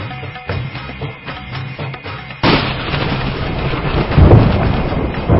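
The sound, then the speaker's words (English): Steady rain patters softly, then a loud crack of thunder breaks in and rolls into a long, deep rumble that swells again near the end, with the downpour continuing underneath. “There was thunder on the path, for the quickening brought with it storms and rainbows, sages and fools.”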